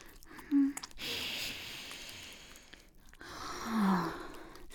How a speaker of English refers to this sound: Mommy's going to press her nose against the head of this big, stiff cock. Oh, yes. And I'm going to take a nice, deep sniff.